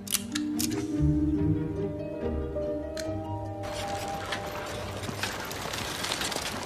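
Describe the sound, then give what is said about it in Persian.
A small Ensignette camera is handled, giving several sharp, crisp mechanical shutter clicks over sustained tonal notes that give way to a steady hissing rustle. “چه چیز جالبیه؟ یه دوربین انسیگناته.”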